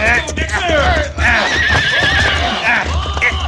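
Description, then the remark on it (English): A horse whinnies loudly several times in wavering, high-pitched neighs over a steady low rumble, with hooves clopping irregularly underneath as it moves, while its rider is ordered to come down off it. “All right, come down off that horse, fella.”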